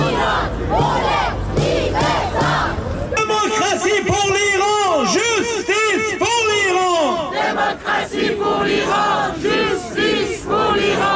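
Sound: protest crowd chanting slogans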